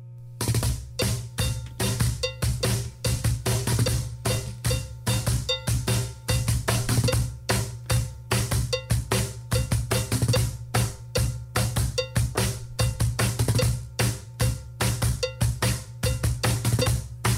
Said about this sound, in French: Ça sonne un peu comme une cloche à vache, mais pas tout à fait comme une cloche à vache. Ouais. T'as un bruit de casserole.